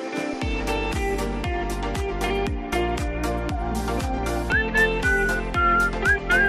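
A person whistles a short melody with sliding notes over a steady, punchy musical backing beat, with the whistling coming in about two-thirds of the way through; nobody speaks.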